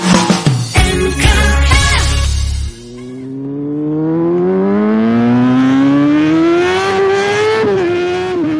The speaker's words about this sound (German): Dieses Geräusch, das hört man jetzt immer öfters, denn ja, bei dem schönen Wetter beginnt so langsam wieder die Motorradsaison.